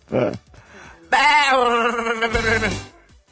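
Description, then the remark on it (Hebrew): A loud, wavering goat bleat lasting over a second, played from a computer as a hint in a quiz, quavering and nasal, preceded by a brief voice and fading out at the end. “עז, עז. יפה. נכון.”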